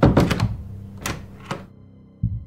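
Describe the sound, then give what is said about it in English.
A door thuds shut from the porch with a short rattle, followed by two sharp metallic clicks of a lock turning and a final soft thump, with no voices. “I stepped onto the porch and looked around quickly, then closed the door and locked it.”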